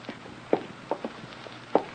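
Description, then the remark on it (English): A few soft footsteps tap in a hall at an unhurried, slightly uneven pace, sounding quiet against a still background with no talking. “Why, I thought I heard footsteps in the hall.”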